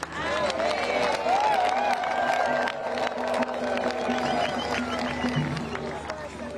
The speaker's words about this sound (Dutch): En zo nog een applaus en een dankbaarheid van de aanwezigen voor deze woorden van Paus Leo XIV op het einde van de heilige mis in São Remo.